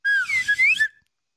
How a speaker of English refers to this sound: When the fuck did you get a slide whistle?